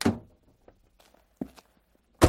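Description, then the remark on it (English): A heavy car door thunks open as a grown-up gets out of a car, followed by a few soft footsteps and shuffles, then another loud door thud closes it at the end. “And the grown-up gets out.”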